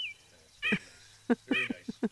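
Birdsong: a few bright, chirping notes, then a quick burst of several short calls in a row, fairly high-pitched and clear over a quiet background, with no one talking.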